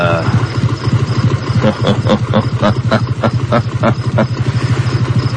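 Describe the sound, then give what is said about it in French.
A motorcycle engine idles low and steady, with a regular mechanical ticking and clatter rising over it as the bike is moved slowly forward toward a small ravine. “Je vais avancer un peu avec sa moto.”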